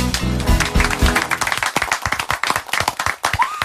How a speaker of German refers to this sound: Ja, endlich mal ein Applaus, auch so wie er sich gehört.